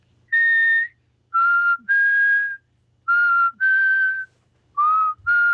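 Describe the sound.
Someone whistles a slow melody alone, holding long, clear notes in short phrases separated by brief pauses, fairly loud.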